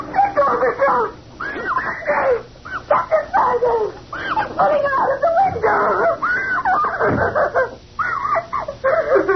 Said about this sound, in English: Who is that screaming?